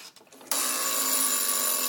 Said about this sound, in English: The farting oven bell, which amuses me every time I hear it. If you wind it up all the way, it does actually get to a point where it's usable. You just have to sort of catch it right.